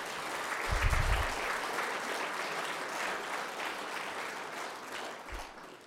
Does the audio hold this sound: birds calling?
no